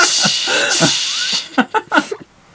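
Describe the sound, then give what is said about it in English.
A voice imitates a hissing suction cup noise, like the machine fitting Darth Vader's helmet: a loud, breathy hiss held for over a second, then a quick run of short, punchy vocal pops before it falls silent. “Nice suction cup noise.”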